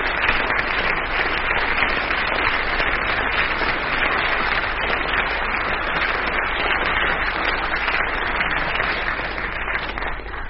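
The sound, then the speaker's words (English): Sustained applause from a large audience judging between contestants on a show, steady dense clapping that stays loud and even for about ten seconds before easing slightly at the end. “Difficult for me, but I think your applause just gives the palm to Dennis Norton, and that brings us to a quite extraordinary final score in which no marks whatever separate the two teams, and it is a tie.”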